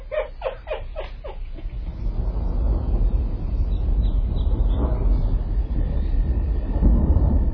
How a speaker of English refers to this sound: a storm is approaching. Great black clouds seethe and swirl as flashes of lightning brightens the horizon and thunder